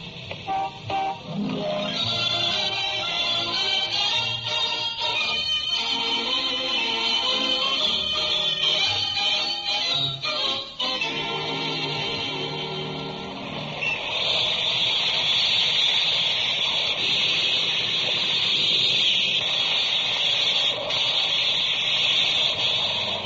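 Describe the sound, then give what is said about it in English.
A big steam shovel at work: loud, continuous mechanical roar with shifting tonal whines and horn-like toots in the first half, settling into a steady hissing drone later. No voices. “Some size steam shovel.”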